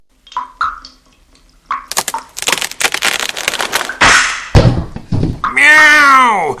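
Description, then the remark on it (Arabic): A few faint squeaks, then a rapid burst of loud cracking and splintering as a wooden ceiling gnawed by two mice breaks, followed by a heavy thud as a sack of wheat and a big cat fall onto the mice, with the cat's drawn-out yowl at the end. “أجل أحبتي، بدأ الفأران بقضم خشب السقف أكثر، وفجأة انكسر الخشب وسقط كيس القمح، ومعه سقط القط الكبير على الفأرين.”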